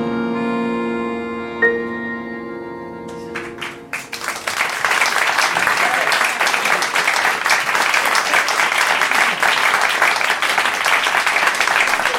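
A sung melody fades out, then a large audience breaks into loud, sustained applause, many hands clapping densely and steadily for about eight seconds until the end.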